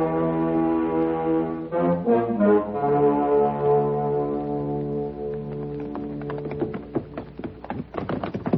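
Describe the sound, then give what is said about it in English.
A long, droning horn-like tone fills the first half, then horses' hooves clop and thud on hard ground in a quick, irregular patter that grows busier toward the end, as riders take their horses down a draw. “Watch your horses don't slip.”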